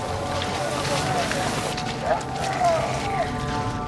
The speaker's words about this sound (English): And so for example, some of the French shouting you hear is, you know, the sound of people in pain or being arrested or, you know, all kind of recorded at quite a distance.